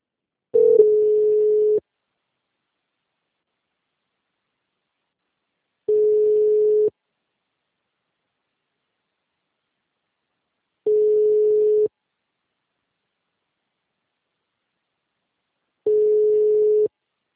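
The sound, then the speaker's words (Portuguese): A telephone busy tone after a dropped phone call: four steady, mid-pitched one-second beeps, each followed by about four seconds of silence, sounding alone with no voices. “Acho que a ligação caiu.”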